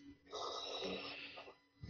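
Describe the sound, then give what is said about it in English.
Heavy, raspy breathing over a muffled phone line, one long drawn-out breath into the mouthpiece, loud and airy with a slight snoring rasp, and no talking. “Somebody's a heavy breather and it sounds like they're masturbating.”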